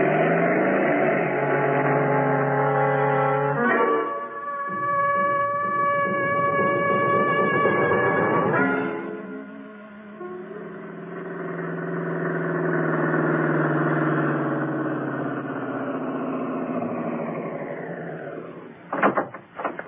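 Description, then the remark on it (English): A motorcycle engine idles and revs hard in several loud bursts, then pulls away to follow a car, its droning pitch sliding lower as it recedes, followed by a couple of sharp clicks. “Lend me your motorcycle.”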